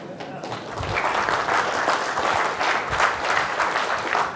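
An audience breaks into steady applause after a live C# coding demonstration, a dense wash of many hands clapping that holds at an even, fairly loud level for several seconds.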